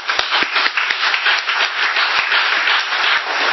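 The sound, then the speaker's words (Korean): An audience at a church service claps together in steady applause of encouragement for two members departing for the United States. Many hands produce a dense, even patter of sharp claps that holds at a lively level throughout, with no voices over it. “잘 다녀오시라고 응원의 박수 한번 칠까요?”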